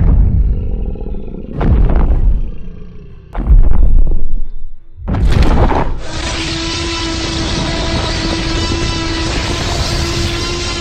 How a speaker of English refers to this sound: Louder than I thought she would be. That roar would blow my hair back, if I had any.